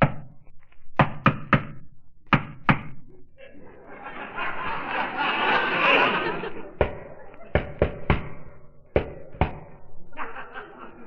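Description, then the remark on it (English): Sharp knocks rap on a building's cellar door in quick patterned bursts of two and three, pausing while a stretch of muffled laughter and voices rises in the middle before the knocking resumes. “No, no, don't touch the bell. Guy told me to knock.”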